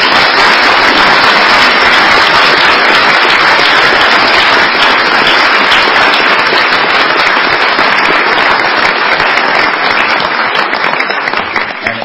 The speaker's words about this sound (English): I want to give them both a big, big round of applause.